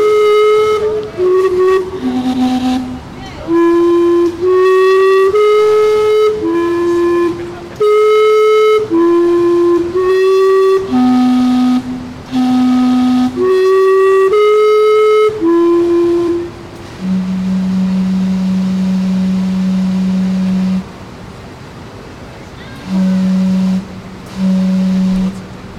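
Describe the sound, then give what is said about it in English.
A steam-powered clock's whistles play a loud, breathy chime melody of rising and falling notes, then sound one long low blast followed by two shorter low toots, with a large group gathered around. “People must know that it's going to chime soon.”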